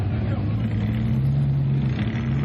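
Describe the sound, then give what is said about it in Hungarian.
An off-road vehicle engine revs hard and steadily as it struggles to get out of mud in Somogybabod, its deep droning pitch climbing slightly as it strains, with a broad rough rush of noise over the low hum. “Percekig küzdött ez a terepjáró, hogy ki tudjon jönni a sárból Somogybabodon.”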